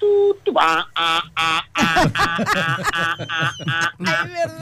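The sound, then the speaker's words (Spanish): A voice imitates a telephone busy signal, as heard after being left waiting, with a rapid series of about a dozen short, buzzy, nasal beeps in a steady rhythm, loud. “Si vos lo dejás esperando, el ocupado después hace...”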